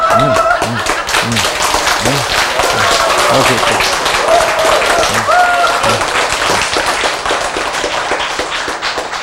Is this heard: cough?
no